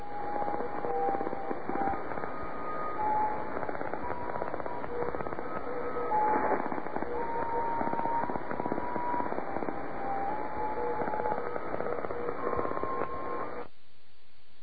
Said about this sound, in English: Sorry, there's a lot of interference to it. This was not a strong signal. But if you listen carefully, you hear there are 10 musical tones. Uh-huh. Each one is about 1 second long.